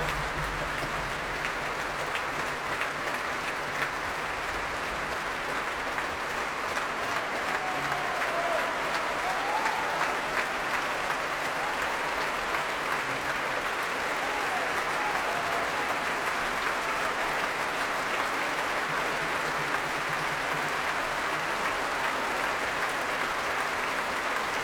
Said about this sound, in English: And as the applause and the cheers for the … continue here at the Royal Albert Hall